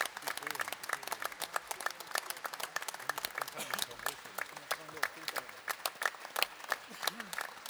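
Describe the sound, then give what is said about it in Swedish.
Steady audience applause for a trio, a singer and a choir as they receive flowers fills the whole stretch: dense, rapid clapping from many hands at a constant level, with faint voices murmuring underneath. “Du får gärna applådera hela tiden och få blommorna här.”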